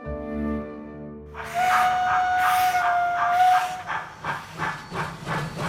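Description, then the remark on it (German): A steam locomotive lets out a long, steady whistle over loud hissing steam, then settles into rhythmic chuffing puffs as it pulls away, with no voices. “Mit der Dampflok.”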